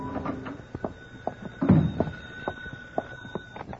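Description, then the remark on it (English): An apartment door is unlocked and opened at 10 at night, with a series of small metallic clicks and clacks followed by a louder thunk midway, then a few lighter taps as it settles. “My phone was ringing when I unlocked the door of my apartment at 10 that night.”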